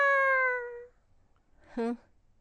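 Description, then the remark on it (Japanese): A cat meows twice: a long, drawn-out meow that slowly fades, then after a short quiet pause a brief, sharper second meow. “にゃーん。”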